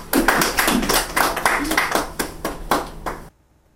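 A group of people applauds steadily for about three seconds, a dense patter of many hands clapping at once, fairly loud, then it stops abruptly into near silence.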